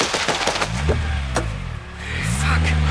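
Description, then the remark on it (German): A car engine roars, broken by several sharp crunching and splintering impacts as the car crashes into another car, then the engine revs up again and the car drives off. “Krass, da kracht er voll in die Karre rein und haut einfach ab.”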